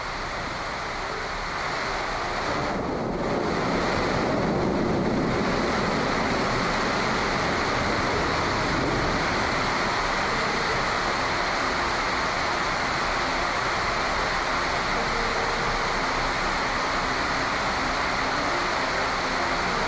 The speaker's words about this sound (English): it's a warm, humid summer afternoon. The sky is filling with dark gray clouds. And then the rain begins. You sit still and listen as the rain falls.